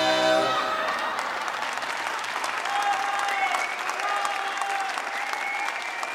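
Sustained applause from a large audience, steady and loud throughout, with scattered cheers and whoops rising above the clapping.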